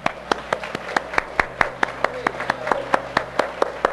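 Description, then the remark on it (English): A church audience claps for the Lord together in a steady, even rhythm, roughly four sharp claps per second, the crisp hand slaps standing out over a continuous wash of crowd noise. “Let's give the Lord a big hand, can we?”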